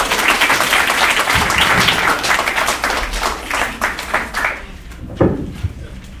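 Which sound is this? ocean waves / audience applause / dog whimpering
audience applause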